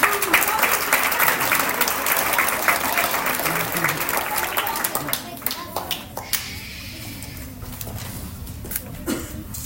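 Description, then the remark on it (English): A room full of people claps steadily for several seconds, welcoming a performer at a Brass Grade 1 performance, the dense applause thinning out toward the end into scattered individual claps. “Give her a big welcome.”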